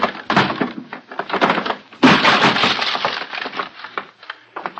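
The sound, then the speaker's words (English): A wooden door to a room is forced open with loud cracking and splintering, a heavy crash near the start of the second half followed by continued snapping and crunching of wood, loud, with no talking. “Stand back! I'm going to break it open!”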